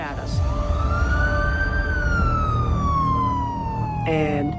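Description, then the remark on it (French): A police siren wails loudly as a police car arrives at speed at night on a street in Akron, one long tone rising then slowly falling, with a short burst of stacked yelps near the end, over steady road rumble. “À peine 30 secondes plus tard, une voiture de police est arrivée en trombe.”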